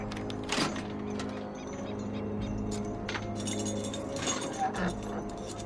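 Keys and a chain jangle with bright metallic clinks and the clack of a lock mechanism as the chained doors of a closed-down movie theater are unlocked, in a few separate bursts over a low, steady background hum.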